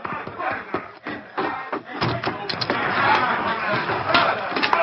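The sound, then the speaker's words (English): A brawl breaks out in a cafe: a string of heavy thumps and slams, first spaced, then denser, over a rising clamor of shouting voices that grows louder and steadier. “As they drew closer, they realized the noise was coming from the cafe. There's a rumpus in the cafe.”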